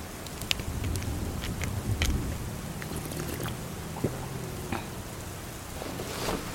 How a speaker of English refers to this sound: We nestled up next to the car as the rain continued to fall.